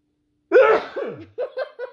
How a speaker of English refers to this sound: Wow, first sneeze in the history of my podcast. Woohoo! I think we're on episode 13. So everyone knows I looked away and covered my nose.